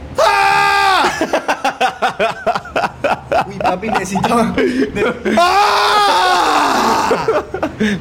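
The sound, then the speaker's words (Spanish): A young girl screams loudly and shrilly in two long, sustained bursts, one at the start and another a few seconds later, with a man talking quickly in between. “Mami, están escuchando que está gritando una niña.”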